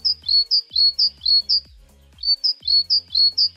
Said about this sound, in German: Na, hätte es jemand erkannt? Das ist die Kohlmeise. Die größte Meise in Europa. Sie hat eine gelbe Brust mit einem schwarzen Streifen und einen schwarz-weißen Kopf.